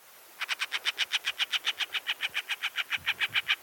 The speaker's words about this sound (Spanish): Aves rapaces del cañón, aguilucho pálido.